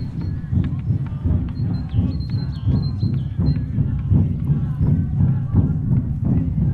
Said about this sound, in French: Et quand on avance sur le site, on entend des tambours. Hein, voilà, j'imagine que vous les entendez aussi.